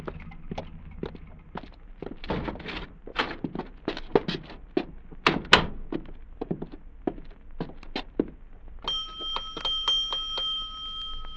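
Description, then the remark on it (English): Footsteps thud across a floor for several seconds, then a bell at a hotel rings out, a steady, bright, sustained ring that continues to the end. “First them people have to check out in a hurry, and now that blasted bell's ringing again.”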